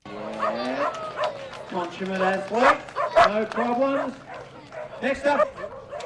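Kelpie working dogs bark and yip repeatedly at the Casterton Kelpie Festival in Western Victoria, Australia, several overlapping barks in an excited, irregular rhythm, loud throughout.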